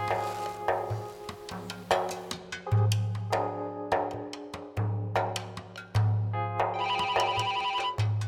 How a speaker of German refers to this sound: Nachmittags um zwei wurde Hunkeler vom Handy aus dem Erholungsschlaf gerissen.